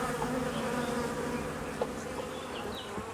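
A steady, droning hum of many bees buzzing together, continuous, with a few brief individual buzzes passing by and no voices.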